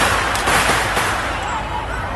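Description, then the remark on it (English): A rapid series of sharp bangs and cracks from fireworks downtown at night echo over a dense, rumbling outdoor din, the bursts landing irregularly in quick succession. “These were fireworks, but everyone thought it was gunshots and it was chaos.”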